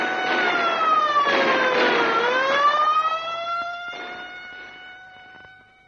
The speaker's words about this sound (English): There are the guns. And there's the siren.